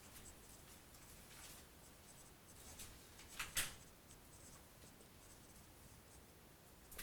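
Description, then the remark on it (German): A pen scratches and scrapes across paper in short, uneven strokes, fairly quiet, with one sharper tap or scrape partway through and no voices. “Ich nehme diesen Stift, der war gut.”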